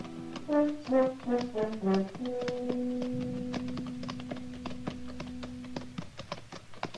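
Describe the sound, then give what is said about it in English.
Horses' hooves clip-clop steadily along the almost deserted main street of Elkader at noon, at an unhurried walking pace and fairly clear, while a soft melodic tune and then a held note play underneath. “It was noon of the second day when we rode up the almost deserted main street, hot, saddle-weary, hungry.”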